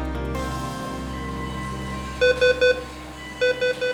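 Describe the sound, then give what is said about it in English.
Two sets of three sharp electronic beeps, evenly spaced and fairly loud, from a patient monitor alarm in a hospital intensive care unit, sounding over a steady low hum with no one speaking. “Hospital intensive care units can be a cacophony of round-the-clock beeps and buzzers.”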